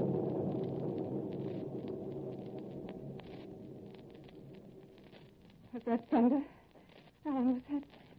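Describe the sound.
Thunder rumbles low and heavy at first, rolling on for several seconds as it slowly fades, before a couple of short voices speak near the end.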